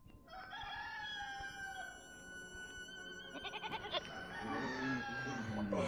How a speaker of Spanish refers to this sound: ¡Arriba, muchachos, que ya cantaron los gallos!